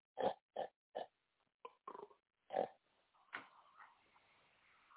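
pig grunting and oinking

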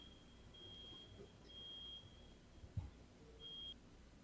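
truck reversing beeper

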